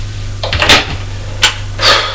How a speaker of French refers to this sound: Il ouvrait les portes de son placard. De son armoire.